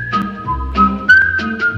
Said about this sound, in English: You're playing. That's the closing credits. That's the closing credits? Yeah.